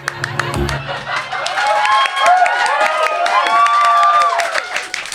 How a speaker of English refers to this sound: The clapping was a little exhausting, but the eggs are nice.